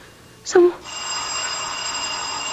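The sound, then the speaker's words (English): A short vocal sound, then a doorbell at the front door starts ringing at noon, a steady, bright electric ring that keeps going without a break, fairly loud. “Oh, who could be ringing the bell at this hour?”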